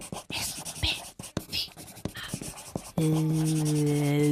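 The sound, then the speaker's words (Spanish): A pen scratches across paper in quick, irregular strokes for about three seconds, then a steady droning tone takes over. “Atentamente, saco boli, cuerpos.”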